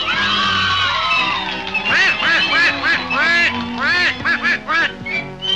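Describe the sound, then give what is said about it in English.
A buzzy, squawking Donald Duck cartoon voice recites the nursery rhyme Mary Had a Little Lamb, from Mickey's Big Show on the Disney Channel, in quick, garbled syllables, delivered loud as a steady run of quacking phrases with brief pauses between them. “Introducing Donald Duck reciting Mary Had a Little Lamb.”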